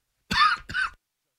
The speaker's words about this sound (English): Sorry, the cough got me.